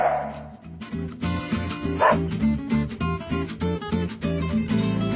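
A dog barks again and again in quick, uneven bursts, loud, filling the whole stretch with no pause or talking.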